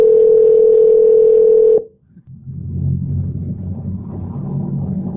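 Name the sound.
outgoing phone call ringing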